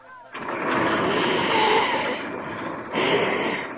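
Someone blows their nose loudly: a long, rough, honking blast followed by a brief dip and a second forceful burst, with no talking over it.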